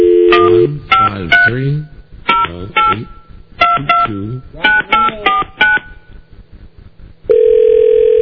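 A touch-tone phone redials a number after a disconnected-number message: several quick groups of short, clear keypad beeps in an uneven rhythm, ending in a steady, loud tone on the line.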